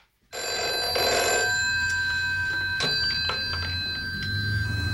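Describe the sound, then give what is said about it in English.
A telephone rings steadily for several seconds, its bright metallic bell sustained with a few brief pulses, fairly loud, with no voices, as a woman calls the caretaker of an apartment building. “She rings up the caretaker to go and check on Tony in the apartment”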